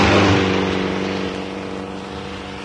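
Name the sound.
car passing by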